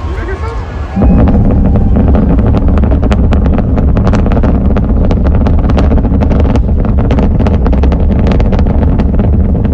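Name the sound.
rocket launch roar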